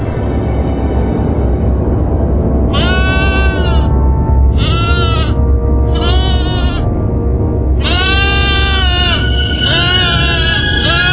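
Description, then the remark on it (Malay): A goat bleats several times in wavering, nasal cries, four bursts with the last drawn out and broken, over a steady low background rumble. “Sebentar kemudian, dia sudah kembali lagi membawa seekor kambing.”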